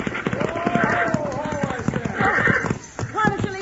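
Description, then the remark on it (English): Horses' hooves gallop in a fast, steady drumming rhythm throughout, loud and continuous, as a woman holding the reins drives them on, with a raised voice and a brief whinny-like cry riding over the pounding. “Pull them horses down!”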